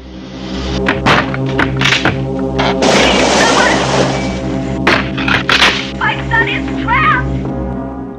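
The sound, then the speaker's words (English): A house's bedroom window is smashed: sharp thuds build to a loud crashing burst of breaking glass, followed by a few more impacts over a steady low drone, with brief vocal cries near the end. “As the ragged figure steps through a hole in the door towards Andy, Nick smashes the bedroom window.”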